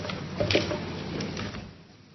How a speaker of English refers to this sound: She will have her sound check this afternoon, so we are going to close the door of this room.